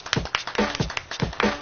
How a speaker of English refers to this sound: Why are we clapping? Because it's like with a beat.